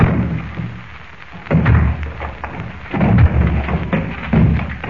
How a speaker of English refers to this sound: Well, what you used to break down that door with?